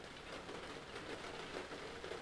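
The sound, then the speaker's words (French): Steady rain hisses continuously, a soft even wash of drops with no pauses or voices, fairly quiet and constant throughout. “Attendre que cette pluie s'arrête.”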